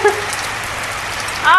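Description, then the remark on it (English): Steady rain patters, with brief tonal pings as drops strike a hollow metal object such as a pot. A voice briefly cuts in at the very end. “Now I believe the rain is hitting a pot or something.”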